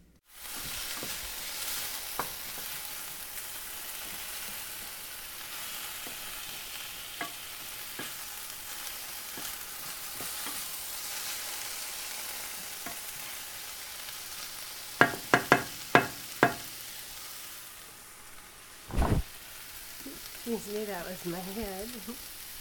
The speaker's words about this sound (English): So first we hear food frying. I was holding the microphone over my wife's head, recording her cooking stir-fry.